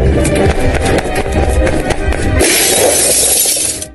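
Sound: window glass being smashed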